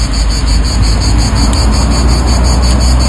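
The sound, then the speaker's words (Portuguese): Cicadas sing in a loud, unbroken chorus, a shrill high-pitched buzzing with a fast pulsing shimmer that holds steady for the whole stretch, with no voices. “ela percebeu que era para gravar as cigarras e fê-lo, e aqui está o som, o resultado.”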